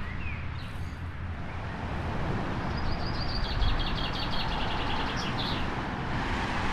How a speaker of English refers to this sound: We have our bedroom on the main road side of the house, and amongst the bird songs and calls, there's this one in particular which just goes on and on. Have a listen to this.